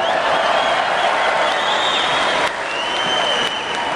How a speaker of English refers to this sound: Are you cheering because we're ugly?